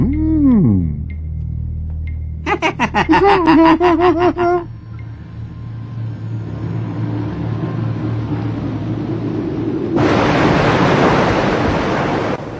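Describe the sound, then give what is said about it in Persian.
Sea water churns and rumbles steadily around a boat in the middle of the sea, with wind noise, a few warbling cries or creaks early on, and a loud rushing surge of a wave near the end. “الان باید وسط دریا باشیم، اونم بدون قطب‌نما و بدون اینکه بدونیم مقصدمون کجاست”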